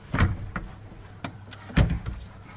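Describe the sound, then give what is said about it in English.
A door is shut with a solid thud near 1.8 seconds, preceded by softer knocks and rattles as it moves, against a low steady hum. “Close the door.”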